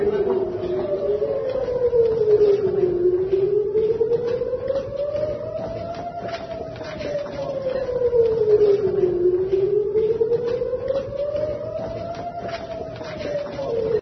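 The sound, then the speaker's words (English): Air raid sirens wail continuously in Israel as people file through to a bomb shelter, their pitch slowly rising and falling in long overlapping sweeps, loud and steady with a faint murmur of background noise beneath. “Okay, so it's a bunch of people filing through while the sirens are going off.”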